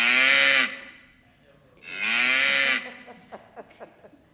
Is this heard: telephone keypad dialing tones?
no